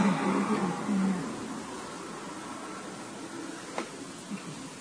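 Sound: car driving past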